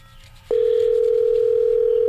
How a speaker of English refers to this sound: Wow, a dial tone ringing.